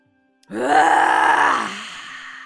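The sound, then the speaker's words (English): A single forceful 'lion roar' breath during a breathing exercise: after a brief silence, a person lets out one loud, raspy, groaning exhale lasting about a second, imitating a roar, then trailing off into quieter breath. “We're going to do three more really intense lion roars, and I want you to let it out.”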